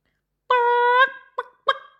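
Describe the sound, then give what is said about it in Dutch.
A young rooster gives a thin, chirpy attempt at crowing: one sustained wavering note followed by two short squeaky bursts, fairly loud, with no one talking. “Ja, dat getjulp van jou klinkt helemaal niet als een hanenkraai, roepen de dames in koor die achter Lizzie aanhuppelen.”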